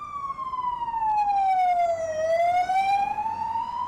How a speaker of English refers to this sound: There sure are a lot of police sirens, huh? I heard they're looking for some deranged serial killer.